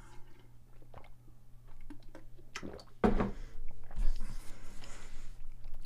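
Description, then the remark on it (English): A person drinks water: a few wet sips and gulps with a brief louder slurp near the middle, plus soft handling noises and no talking. “All right, I need water. Oh, I have it right here.”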